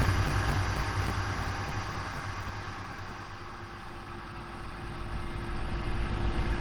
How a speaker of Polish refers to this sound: O, właśnie coś takiego, takie pytanie, samochody ruszyły.